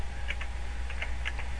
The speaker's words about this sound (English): Can you hear me pecking away? That's how I type.